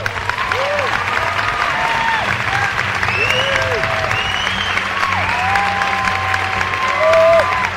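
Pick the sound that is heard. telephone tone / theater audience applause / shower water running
theater audience applause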